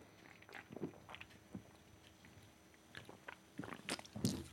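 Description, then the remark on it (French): Someone drinks Toro Loco: a series of quiet, wet sipping and swallowing noises at irregular intervals, with soft mouth clicks and a louder gulp near the end, and no talking. “Je prends un petit peu de Toro Loco.”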